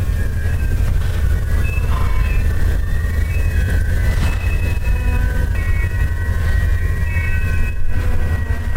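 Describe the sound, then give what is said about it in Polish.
A train rolls past on the only railway line in the United Arab Emirates, a steady heavy rumble with high metallic whines and squeals ringing above it throughout, loud and continuous with no voices. “Bo wiesz, to jest taki dźwięk, który nam się zupełnie z pociągiem nie kojarzy. Raczej z jakimś płaczem i ciszą.”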